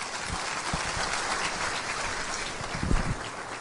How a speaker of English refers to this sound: How about a round of applause for Charlotte O'Hara?